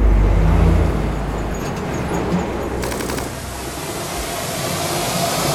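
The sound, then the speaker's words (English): A truck's engine rumbles loudly at first, then settles into a steady drone with road noise as it pulls away, a brief rattling clatter midway through. “Into the truck, come on.”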